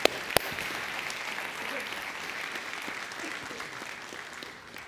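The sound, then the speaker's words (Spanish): An audience breaks into sustained applause, a dense steady wash of clapping hands that holds evenly for several seconds before easing off slightly at the end. “¿Por qué no das una ofrenda de palmas, hermano querido y santo?”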